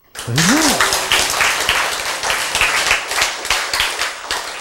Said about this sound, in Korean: 박수!